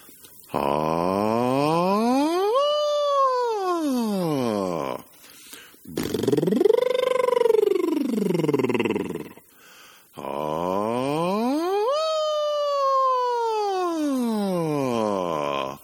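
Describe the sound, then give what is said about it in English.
A voice performs a siren vocal exercise, three pitch glides each sliding smoothly from the bottom to the top and back down: a sung siren, then a buzzing lip trill, then another siren, steady and fairly loud with short pauses between. “Here it is, siren, lip trill, siren.”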